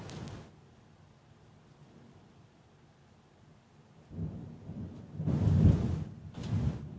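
Thunder rumbles and cracks in a storm, a short burst at the start and heavier rolling peals near the end, with a steady wash of rain hissing faintly in between.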